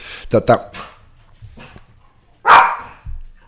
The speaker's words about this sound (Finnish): koira haukkuko. Mä oonko sä edetty nyt poiskaan, niin se on niin, haukkuko, älä viitti nyt. Niin posti varmaan tulee.